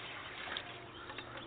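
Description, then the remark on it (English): Spring water from buckets pours steadily into a barrel for goats to drink, a continuous splashing, gurgling rush with no pauses, fairly quiet, with no voices. “We pour the water into a barrel for the goats to drink.”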